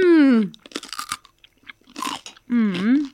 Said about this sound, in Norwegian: Ok, nå hører jeg litt sånn svor i mikrofonen her.